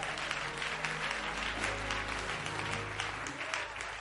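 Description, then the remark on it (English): An audience claps steadily, a dense wash of many hands filling the room at a moderate level, with a low hum of voices and murmur beneath. “Oh, you ought to clap your hands right there.”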